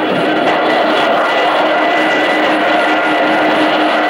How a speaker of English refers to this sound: The plane is rolling. People are still trying to crawl up these stairs. They're falling off on the runway behind. We're leaving behind a stream of people. The plane is picking up speed, heavily overloaded.